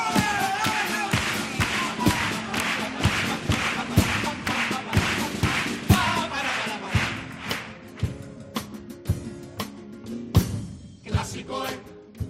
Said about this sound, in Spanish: Y me pongo ya a aplaudir.